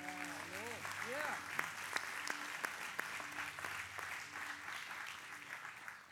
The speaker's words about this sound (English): But I want to thank, by the way, just give a big applause to the worship team, will you?